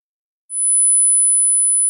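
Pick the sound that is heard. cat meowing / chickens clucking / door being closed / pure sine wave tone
pure sine wave tone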